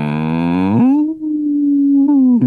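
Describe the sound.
A person imitates a cow's moo, the sound a cow made when its nose was rubbed: one long drawn-out lowing call that opens with a brassy, nasal tone and then settles into a steady sustained hum, loud, with no talk alongside.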